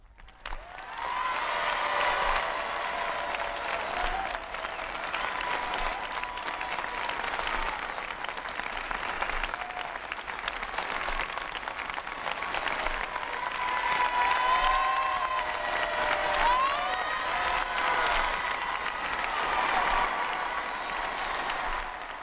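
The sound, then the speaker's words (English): A vast outdoor crowd of young people in Ireland cheers and applauds the Pope continuously for about 10 minutes, a dense roar of clapping and raised voices that swells and surges steadily throughout, with scattered whistles and shouts rising above the din. “And a 10-minute tempest of cheering seems to say the young people of Ireland love the Pope.”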